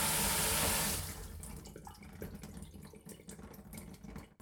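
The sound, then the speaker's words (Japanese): A shower used while bathing a cat runs with a loud, steady hiss for about a second, then is turned off abruptly, leaving quiet drips and soft rustling. “じゃあシャワー止めるよ。”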